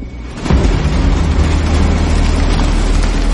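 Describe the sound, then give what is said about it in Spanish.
A train suddenly roars past late at night, a loud, deep rumble bursting in after a brief quiet and holding steady with echoing clatter. “¡Menudo susto! Dijiste que no pasarían trenes.”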